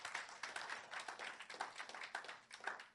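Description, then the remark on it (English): A church audience claps for the Lord Jesus during a sermon, a dense, sustained burst of applause, many hands overlapping into a steady, bright patter that holds for a few seconds without any voices. “Then clap for the Lord Jesus.”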